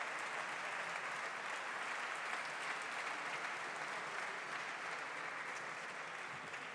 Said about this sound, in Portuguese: Para estes dois grupos, peço aos seus deputados uma salva de palmas.